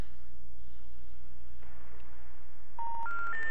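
Telephone dialing tones over a humming, noisy, erratic phone line as a call is placed to Fred Geiger: after a stretch of static, three short electronic beeps sound in quick succession, each higher in pitch than the last, clear and fairly loud.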